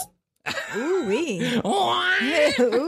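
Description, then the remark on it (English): A man lets out loud, drawn-out moans during orgasm that waver up and down in pitch, with a brief catch of breath partway through. “That is an orgasm. That is actually a man.”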